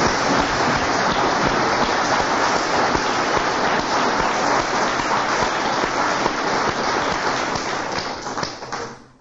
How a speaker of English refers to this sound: Okay, can we have another round of applause for Father Leo? Thank you very much.